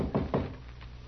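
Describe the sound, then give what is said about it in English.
Two firm, hollow knocks on a wooden door in quick succession, followed by a much fainter tap, with nothing else sounding around them. “The door ain't locked.”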